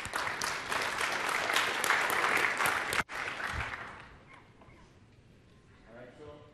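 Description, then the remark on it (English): An audience bursts into loud, dense clapping for a speaker being introduced at a technical session about a certification program. The clapping holds steady for about three seconds, then thins and fades out as a man's voice begins speaking over the last scattered claps. “Folks, give a hand clap for”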